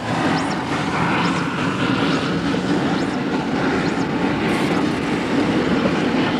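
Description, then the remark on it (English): A steam train rumbles steadily along a railway through a mountain pass in former British colonial India, a dense, continuous, loud roar with faint rhythmic clatter and no pauses; the line climbs a steep grade through 40 tunnels and over nearly 100 bridges. “The British built a series of forts that dot the barren, rugged hillsides that line the pass and a steam railway to provision them, a line that runs up a steep grade and runs through 40 tunnels and over nearly 100 bridges.”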